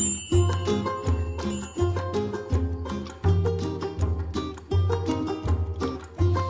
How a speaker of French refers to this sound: Donc on plante ça sur le joug, hein. Voilà, sur la cheville centrale. La cheville centrale. Et comme l'extrémité du superjoug est tronconique, avec le pas des bœufs, ben, ça fait sonner les cloches.